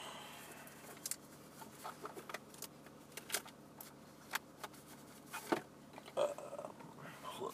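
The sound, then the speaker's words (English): A dirty USB cable being plugged in inside a car: a series of small, sharp clicks and plastic handling rustles scattered over several seconds, quiet, with no talking. “Plug that end in.”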